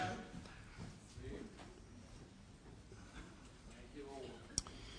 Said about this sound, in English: I like hearing them pages turning of that good King James Bible.